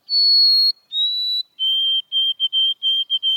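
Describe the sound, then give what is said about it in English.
A white-throated sparrow whistles its clear, pure song: one long high note, a slightly lower held note, then a quick run of short repeated notes on a lower pitch, with no talking. “You may even spy sparrows with crown stripes, like white-throated sparrows.”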